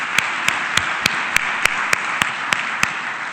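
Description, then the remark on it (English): An audience at a Goleta Chamber event applauds the speakers from the city of Goleta in a steady, dense wash of clapping, with one set of sharper claps standing out at an even, quick rhythm throughout. No one speaks. “How about another quick round of applause for all of our amazing speakers today from the city of Goleta?”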